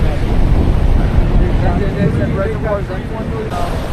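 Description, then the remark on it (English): Steady, loud low rumble of a boat moving across open water, with wind buffeting the microphone throughout and a faint muffled voice underneath. “I was about to say that we're the only boat here, but then I see one more boat.”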